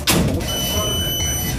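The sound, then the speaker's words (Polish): A bus's reversing sensor emits a steady, high-pitched electronic tone after a brief thump at the start, sounding over a low engine rumble and cabin noise as the bus moves off. “Słychać tylko czujniki cofania.”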